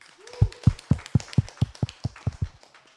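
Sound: audience clapping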